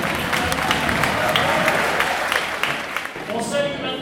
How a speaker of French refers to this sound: Tous les collégiens debout, bonjour à tous. Tous les collégiens, on les applaudit, on les encourage.